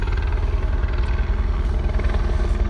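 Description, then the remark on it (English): A helicopter thunders overhead, its rotor beating in a steady, rapid low-pitched chop that stays loud and constant throughout, with no voices. “And now we have helicopters.”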